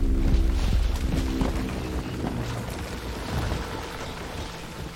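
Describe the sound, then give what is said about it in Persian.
Many horses neigh and kick at stones, hooves clattering in a dense, busy jumble, set against the steady rushing noise of a river, fairly loud throughout. “اسبا شیهه میکشن، به سنگ ها لگد میزنن.”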